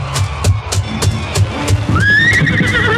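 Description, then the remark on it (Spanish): A saddled horse, ridden down a hillside by Captain Gary with a local guide alongside, lets out a high, wavering whinny over a steady clip-clop of hooves, which keeps a regular rhythm of sharp beats throughout. “El Capitán Gary hunde el rifle de mira telescópica en la funda ceñida a la silla de montar y avanza colina abajo, acompañado del guía lugareño.”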